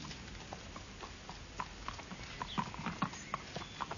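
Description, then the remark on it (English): A horse's hooves clip-clop in a steady, even rhythm, a string of sharp knocks that grow a little louder toward the end, with faint background noise and no talking. “What do you think of the horse?”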